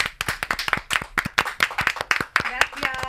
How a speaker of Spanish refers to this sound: Un aplauso de todo corazón